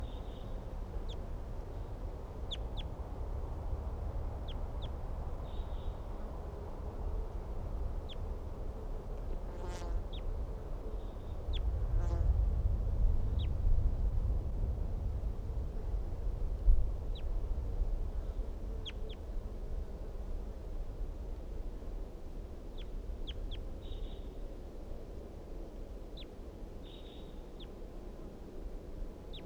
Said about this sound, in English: Wild birds calling very softly from a dead pine tree near the net area.